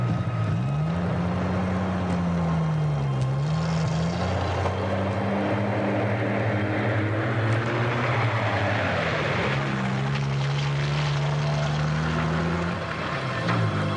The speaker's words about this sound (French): Bon, soldats, dans les camions. On va partir. Rassemblement! Tout le monde dans les camions! Il faut partir. Ok, on y va. Allez, montez plus vite. Ouais, on est parti.